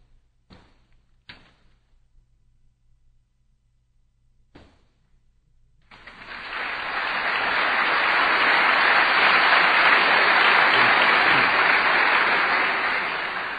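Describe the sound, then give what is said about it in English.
A few sharp, isolated thumps sound over a low hum, then an audience bursts into steady, loud applause that holds for several seconds until the end, as Robert Price comes up to respond to William Lane Craig in a debate on the resurrection of Jesus. “After what you just heard about me, you don't really want to clap, admit it.”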